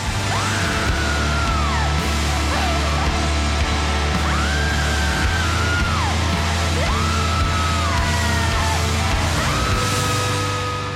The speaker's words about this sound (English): Yeah. Because you are just out of body, screaming, wailing, you know. I mean, are you smiling when you did that?